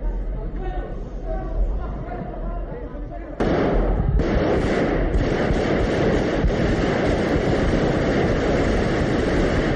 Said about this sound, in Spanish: El teniente coronel lanzó una advertencia a gritos, tras la cual hubo un silencio roto después por los disparos.